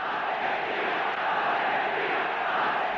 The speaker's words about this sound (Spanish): En ese momento, el Monumental es un escenario de júbilo, de locura, lleno de papelitos, con la gente cantando, llorando y gritando por Argentina, que acaba de proclamarse campeona del mundo por primera vez.